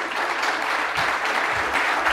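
Steady audience applause, a dense crackle of many hands clapping at an even, sustained loudness throughout, with no voices standing out.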